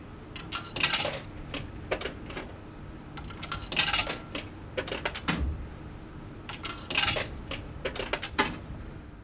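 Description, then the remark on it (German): Coins are dropped one after another into the slot of a train ticket machine to pay for a ticket, making a series of sharp metallic clinks and rattles at an uneven rhythm, with no one speaking. “Zum Bezahlen werfe ich die Münzen in einen Schlitz im Automaten.”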